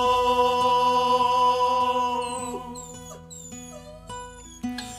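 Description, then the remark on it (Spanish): A bouncy cumbia tune by a group from Castro, Chiloé, with sustained melodic tones, punctuated by short, high dog yelps that pop up repeatedly in the second half, sitting right in the mix with the music. “Y ahora vamos a escuchar una cumbia de perros, es decir, la perrumbia.”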